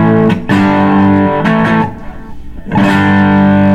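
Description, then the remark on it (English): Electric guitar chords played through a Big Joe 404 Vintage 2 overdrive pedal with a mostly clean, lightly driven tone: a few sharp strums ring out, fade briefly, then a fresh chord sustains loudly with no talking. “It's a Big Joe 404, and one thing that I really like about it is that there's overdrive on them.”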